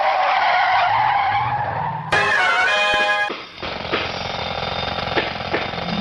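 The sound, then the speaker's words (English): Car tires screech loudly in a sharp, high-pitched squeal lasting about a second, surrounded by a rushing engine roar as the vehicle peels away. No one speaks. “Quick, to the Signature Sign Mobile!”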